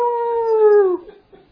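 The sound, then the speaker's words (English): A single sustained wolf howl imitated by a human voice, steady then sliding downward in pitch for about a second before cutting off, loud, followed by near silence. “Yeah, I ought to just start howling.”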